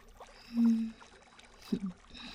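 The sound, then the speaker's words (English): Gentle water splashing in a pool as people move and swim in it, with two soft sloshing surges about a second apart over a faint watery background, quiet, with no voices. “As the water splashes with our movements, little driplets caught in the sun, shining like diamonds.”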